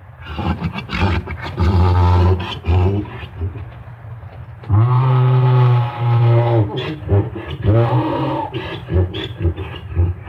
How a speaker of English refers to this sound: And after a while, we brought him back into view about half a mile away. And sure enough, just as his buddy disappeared out of sight again, our recording mule called out to him and we got our performance.